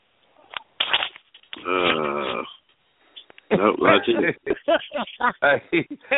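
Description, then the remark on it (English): A man gives a drawn-out, throaty growl lasting about a second, fairly loud, bracketed by short bursts of talking. “Did you hear how he growled?”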